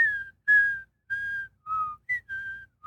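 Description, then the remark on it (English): A piccolo pipes a bright, high melody in short separated phrases, about seven notes with small pitch slides, over brass rumbling faintly underneath, at the opening of The Empire Strikes Back after the title crawl. “But if you look at the top of Empire, after the title crawl, as it pans down to that Star Destroyer, all these brass are going nuts. But over the top of it, this piccolo is going.”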